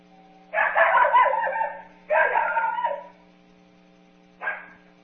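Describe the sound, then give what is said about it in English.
A dog gives disturbance barks, loud, rapid, harsh and low-pitched, in two dense, back-to-back clusters, each lasting about a second, followed after a pause by one short bark. A steady low hum runs underneath, with no talking. “So pretty much you can think of it as the dogs just bark as loud and as fast as they can.”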